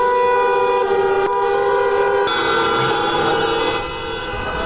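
Many car horns blare together in a sustained, overlapping chorus from a column of cars joining a citizens' protest against Bosnian politicians on Zmaja od Bosne street in Sarajevo on 6 April, with traffic halted. Steady and loud, with sharper blasts cutting in and the din easing slightly near the end.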